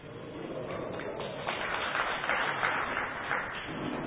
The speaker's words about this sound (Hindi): आप लोग समझते अच्छा है इसलिए ताली बजाया।